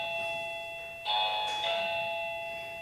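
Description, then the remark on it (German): A doorbell rings with two clear electronic chimes in quick succession, bright and steady tones ringing over a faint background hum, with no voices present. “Warum klingelt das denn jetzt nochmal?”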